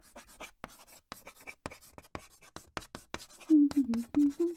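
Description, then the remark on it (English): Chalk scrapes and taps across a chalkboard in quick, uneven strokes as someone writes lines. Toward the end, someone hums a low, wavering tune over the continuing scratches. “It's just, I feel like I'm a bit old to be writing lines on the chalkboard.”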